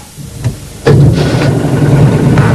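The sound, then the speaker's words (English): A prototype compressed-air car with an aluminium chassis starts as the clutch is let out: after a brief quiet moment with a faint click, the engine kicks in abruptly, then runs steadily with a loud, even hiss and a low humming drone. “Good to go. Clutch out. Hey, it's working.”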